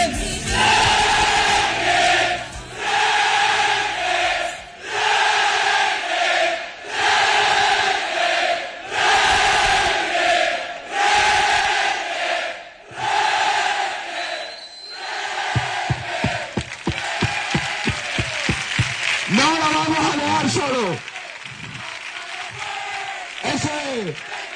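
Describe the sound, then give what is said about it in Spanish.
A large crowd of Recreativo supporters chants "Recre!" loudly in rhythmic bursts, with repeated massed shouts echoing in a stadium, then the chanting loosens into scattered yelling and voices toward the end. “Y ahora quiero que se caigan todos los cristales de la ciudad, porque esto sí le tenemos que gritar fuerte.”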